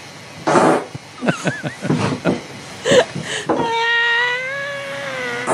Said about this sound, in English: These are all girls. These are girl farts.